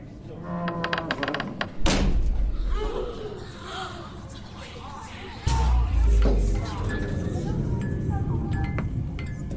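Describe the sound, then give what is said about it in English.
A heavy door slams shut with a deep, booming thud, and a second low thump follows a few seconds later over a steady rumbling background. “The door shut.”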